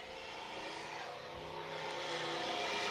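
Vintage cars from a night-time auto show at the Chrysler Center in Albany drive past with a steady, broad engine rumble that swells slightly louder toward the end, a continuous mechanical drone with no voices.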